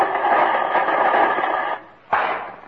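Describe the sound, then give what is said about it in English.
Loud, continuous static from a tube radio being tuned hisses and crackles for nearly two seconds, drops to a brief lull, then bursts back in as the dial is turned. “Well, that's as nice a static concert as I've ever heard, Jimmy.”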